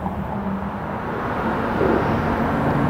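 A police car barrels past on a road, narrowly avoiding an ambulance going the other way; its engine and tyre roar a loud, steady low rumble that swells slightly toward the end, with no siren and no voices.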